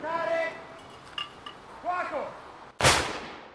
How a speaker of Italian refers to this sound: Tre colpi di cannone sparati a salve hanno suggellato la cerimonia per imprimere nella memoria collettiva i gesti di chi, 80 anni fa, ha scelto di non restare indifferente.